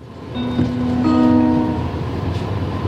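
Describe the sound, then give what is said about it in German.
A tram on the Tram West line in Bern, Switzerland, travelling west toward Brünnen, rumbles along its rails with a steady low roar, and sustained tonal whines rise briefly over the noise before fading back into the continuous running sound. “Jetzt steigen wir wieder rein. Das Tram und fahren weiter Richtung Westen.”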